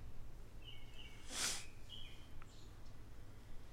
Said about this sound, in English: That bird is really just going at it out there. Yep. Happy bird.